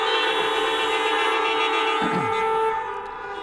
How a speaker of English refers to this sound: Let's give a honk out to our seniors right now as they go through this time.